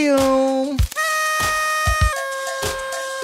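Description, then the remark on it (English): A loud, sustained air horn sound effect with a horn-like blare and rich overtones that jumps up in pitch and then steps down, giving a deflated feel, punctuated by several sharp percussive hits. “I love that sad-ass air horn.”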